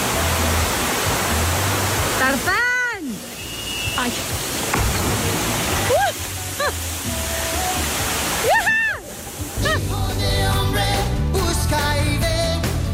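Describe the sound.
Loud, steady rushing water from waterfalls in a wooded area roars throughout, with a person on a zipline shouting and yelling excitedly over it several times.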